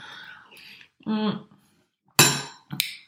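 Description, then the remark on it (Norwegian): A spoon clinks against a dish twice in quick succession as someone eats tomato soup with egg, sharp bright taps near the end, preceded by soft murmuring and a short hummed vocal sound. “Nå sitter du og spiser i podcasten, der vi har 23 lytter da, så sitter du og eter.”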